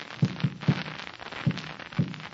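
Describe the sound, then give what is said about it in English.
Muffled, low knocks tapped against a wall in Morse code, answering with the signal SOS: a quick group of three thuds, a pause, then two more, each dull and soft, with a faint hiss behind them and no talking. “That was the signal SOS.”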